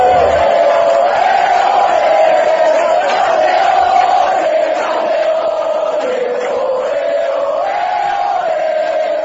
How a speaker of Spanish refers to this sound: Este es el pequeño homenaje, los sonidos del campeón, recibimiento en el aeropuerto de Las Palmas y Luis Casimiro en tiempo de juego.